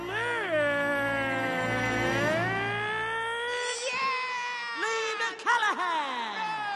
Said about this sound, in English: For inventing a zero-emission car that runs on cute. There's a fluffy kitty in the fuel tank.